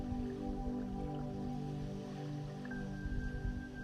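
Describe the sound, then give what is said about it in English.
Steady rain falls outside a house in a soft, continuous wash, with scattered drips, blended with a low sustained humming drone and a faint high tone near the end. “You lay here, listening to the rain outside.”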